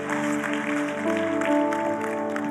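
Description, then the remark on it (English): A large crowd applauds and cheers continuously to welcome the kids who are there to cheer on their friends getting water baptized, a dense wash of clapping and whoops that holds steady throughout, with sustained musical tones humming underneath. “Can we welcome all our kids here to cheer on their friends getting water baptized today.”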